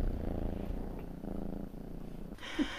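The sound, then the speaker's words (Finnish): A small black cat purrs steadily in a cottage, a low rhythmic rumble that continues throughout, with a soft rustle near the end. “Kuuluu tosi selvästi, kun se hurisee.”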